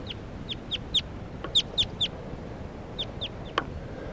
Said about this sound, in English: And I heard a crossbill fly over about 15 minutes ago, and I think right now I hear alarm calls of a crossbill coming from about 100 yards due south.